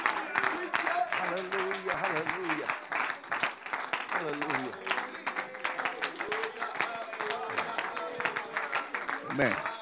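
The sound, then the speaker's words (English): A crowd claps hands in a dense, steady wash of applause lasting several seconds, with voices calling out and murmuring underneath, answering a call to clap if they believe Jesus is the Savior. “Come on, if you believe Jesus is the Savior, clap your hands right now.”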